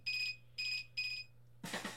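A phone alarm goes off with three evenly spaced, bright electronic beeps, fairly loud, before a short burst of noisy sound cuts in at the end.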